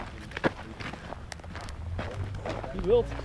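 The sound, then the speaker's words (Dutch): Footsteps walking outdoors, a steady series of soft crunching steps, with a brief voice sound near the end and faint background rumble, as people walk over to a heap of rubble made of old bricks. “Nou, lopen we daar even heen.”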